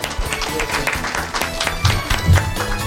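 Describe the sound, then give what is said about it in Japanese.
An audience at an IR seminar in Osaka applauds steadily to welcome a company president, a dense patter of many hands clapping at an even, moderately loud level for the whole stretch, with no one speaking over it. “どうぞ大きな拍手をお願いいたします。”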